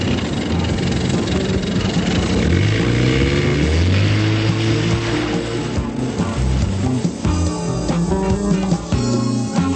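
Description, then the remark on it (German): A loud motorboat engine roars continuously, its pitch climbing steadily as it revs up and speeds out to sea while darkness falls, with a churning rumble throughout. “jagte mit dem Motorboot in die See hinaus.”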